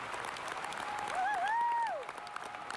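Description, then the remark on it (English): A concert crowd applauds and screams for an encore after the singer leaves the stage, a steady, dense roar of clapping, while a single high, sustained scream rises above it briefly and then falls away, without any voices talking. “All too soon, she was off the stage, and we screamed for an encore.”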